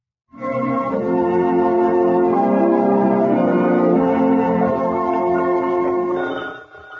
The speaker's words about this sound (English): Eddie, answer that phone.